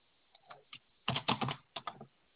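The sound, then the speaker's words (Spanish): Keys clatter on a computer keyboard in quick, irregular bursts as a customer code is typed in, a few light taps first, then a denser flurry of clicks, with no voices. “Ya, hago un clic. La parte de abajo le va a pedir de nuevo el código del cliente. Escribe en lo mismo nomás.”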